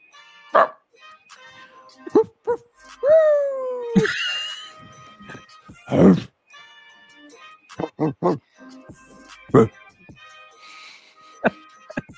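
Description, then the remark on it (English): Several people take turns giving single dog-like barks, one each from right to left, in quick succession before a playoff game, some yelped and some drawn into a howl, with scattered voices between them. “I need one bark from everyone, from right to left, starting with …”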